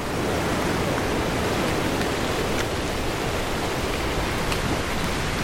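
rain

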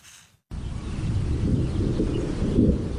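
thunderstorm with rolling thunder

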